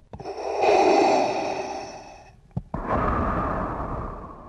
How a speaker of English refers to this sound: and ultimately that, which was me breathing, once brought back to the studio and slowed down a little bit, became the breathing of Darth Vader.